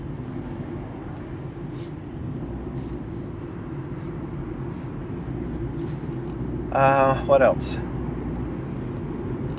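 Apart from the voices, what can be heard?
passing road traffic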